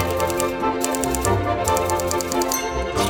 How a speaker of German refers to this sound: Das Klappern seiner Schreibmaschine war wohl das einzig angenehme Geräusch in diesem kalten Büro.